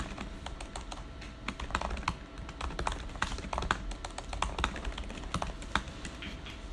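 Rapid, uneven clicking of keys on a computer keyboard as someone types during a meeting debating a motion, steady typing that continues throughout over a low background hum, with no voices.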